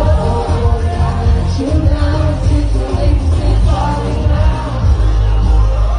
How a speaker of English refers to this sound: I know it's the crowd's going nuts for him, but it's a little hard to hear, right? It's, you know, cell phone video